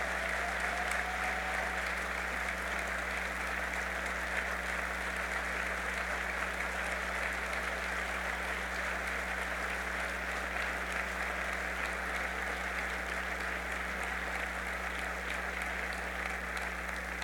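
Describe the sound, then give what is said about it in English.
A steady, sustained round of applause from a crowd for the firefighters of the Buffalo Fire Department, dense crackling clapping that holds at an even level for over fifteen seconds without any speech. “I want to give Buffalo's bravest a round of applause for the great job they do every day serving our community.”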